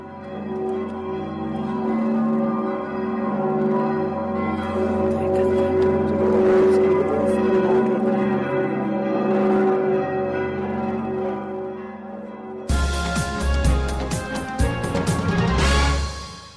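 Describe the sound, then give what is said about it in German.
A full peal of new church bells rings out after a church service, overlapping tones swelling and humming for a long stretch, then sharper, brighter strikes clang in quick succession near the end. No voices. “konnten die Gläubigen zum ersten Mal auch das Geläut der neuen Glocken bewundern.”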